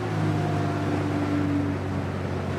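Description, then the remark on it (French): A boat engine drones steadily and loudly as the boat passes and makes a wave, a low humming motor layered over a broad wash of water and wind noise, with no voices. “Il est bon mon bateau vu d'ici. Hey, t'as vu la belle vague que je te fais ?”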